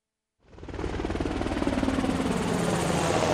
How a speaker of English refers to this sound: The Navy Seahawk helicopter has a lift capacity of over 6,000 pounds.